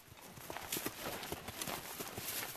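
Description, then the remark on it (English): Horse hooves clip-clop in a steady walking rhythm, fairly loud, with crisp repeated thuds over a faint background hiss; horses of a ranger horseback patrol, the Hornbill Horseback Patrol. “Ranger Jacko leads the Hornbill Horseback Patrol. It's easier to spot tracks on horses, and it's how the Sudanese have poached elephants here for centuries to serve the Nile ivory trade.”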